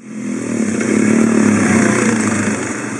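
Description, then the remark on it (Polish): A dirt bike engine revs loudly and continuously for a few seconds, its buzzing drone swelling in pitch and volume before holding steady, with no voices. “Jednocześnie mieszkańcy przyznają, że problem z krosowcami i kładami jest tutaj nagminny.”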